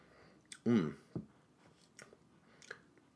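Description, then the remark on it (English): Chewing of bread: soft, moist mouth clicks and smacks scattered over a few seconds, with a brief louder murmur near the start and no clear words. “That bread is just sticking with me there.”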